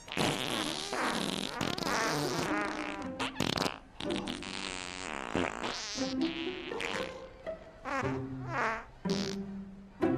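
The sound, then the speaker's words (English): A loud, drawn-out mechanical fart noise made by a robot, buzzy and sputtering, warbling up and down in pitch across several long bursts with brief breaks, with no one talking. “Did y'all program this robot to fart?”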